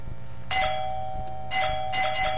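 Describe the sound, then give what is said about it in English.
The doorbell at Arnold's house rings three times on Thanksgiving, bright chiming tones with a ringing, steady pitch; the last two rings come in quick succession. No one speaks. “Hey, Arnold, would you get the door?”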